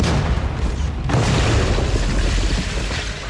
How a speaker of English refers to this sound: Magazines cock off, and the air thunders as two nearby bunkers go up.